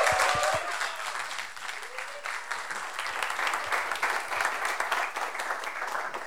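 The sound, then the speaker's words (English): Sustained applause from a large church audience welcoming Pastor Pete as he comes up, dense and steady for several seconds, with a few faint cheers or voices rising briefly near the start. “Give him one last big Texas round of applause as he comes up here.”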